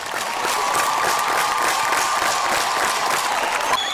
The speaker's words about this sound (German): wo vor einem Monat unter großem Applaus der Friedensvertrag unterzeichnet wurde.